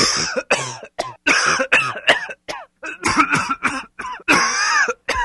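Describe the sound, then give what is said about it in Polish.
A long run of harsh, loud coughs from a patient told to cough by a doctor during a medical examination, one burst after another in uneven fits with short gaps, some rasping and voiced, mixed with throat clearing and no speech. “Zakaszleć.”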